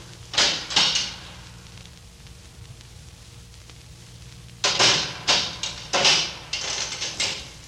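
A door is worked with a short metallic rattle, then after a silent pause comes a run of clanks and scrapes as a chain is undone, the door swings open and bumps shut.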